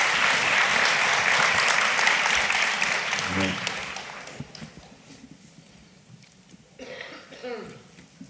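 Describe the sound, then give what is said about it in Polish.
A crowd applauds with dense, steady clapping that lasts about four seconds and then fades away, followed by a short vocal sound like a throat being cleared. “Brawo dla tych ludzi, którzy się tym zajęli.”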